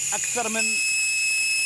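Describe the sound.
A steady, loud hiss of air escaping from off-road tires runs throughout, with a high whistling edge and a brief voice heard over it near the start.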